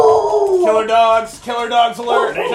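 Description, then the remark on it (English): Dogs howl loudly in long, wavering, overlapping cries that rise and fall for a couple of seconds, with brief dips between the drawn-out notes. “Killer dogs alert!”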